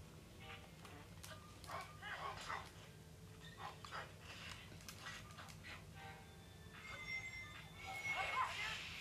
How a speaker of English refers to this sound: I can hear a dog. Multiple wolves. Oh goodness, there's like 5 of them.